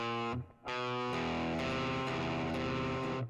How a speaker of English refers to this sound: As I played it wrong. And this is why I knew it was a bad idea for me to play guitar in here, but, you know.